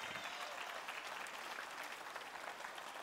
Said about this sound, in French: Il règne, il est en contrôle, il est tout puissant. Voulez-vous l'applaudir? Il est illimité.